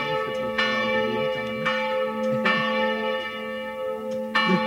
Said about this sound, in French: C'est la cloche de la cathédrale de la Principauté.